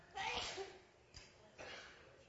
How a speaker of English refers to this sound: That was a glorious sneeze.